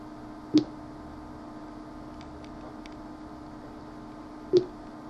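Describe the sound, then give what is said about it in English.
Two short electronic progress beeps from a computer downloading an mp3 file, about four seconds apart, the beep rising in pitch as the download progresses, each a brief sharp blip over a steady low background hum with no talking. “Do you hear that beep?”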